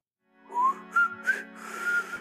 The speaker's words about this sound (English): Wow, I really can't whistle. Let's try that again. I really cannot whistle for the life of me. Is it because I'm trying to whistle quietly? Is that why?